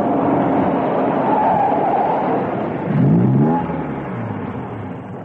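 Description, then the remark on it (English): John Steed's Rolls-Royce drives into the yard of the British Cypher headquarters and parks under a Strictly No Parking sign: the engine rumbles steadily, its pitch swelling and then dropping as it slows, before settling and ending with a short click. No one speaks. “An hour later, John Steed drove his Rolls into the yard of the British Cypher headquarters and parked it under the sign that read, Strictly No Parking.”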